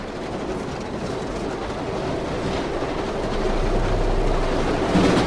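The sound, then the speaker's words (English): A train rumbles and shakes steadily along the tracks past trees and shrubs, a dense, continuous clatter and roar heard from on board, growing slightly louder as it picks up speed. No voices. “The train is moving faster, shaking more than it did.”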